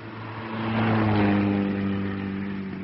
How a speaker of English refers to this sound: Off you go. I will see the road is clear. Wait, a fast car coming.